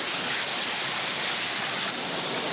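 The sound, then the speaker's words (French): A dense, steady roar of heavy rain pouring down outdoors, loud, with a constant hiss throughout and no voices. “alors, mais on a pris la pire pluie qui puisse arriver.”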